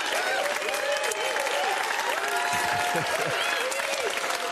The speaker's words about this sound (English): Thank you. I'm humbled by your applause. As much as I can be. Thank you.